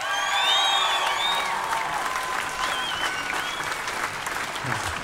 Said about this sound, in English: Would you please put your hands together for Banish Dornafone and Jack O'Connor?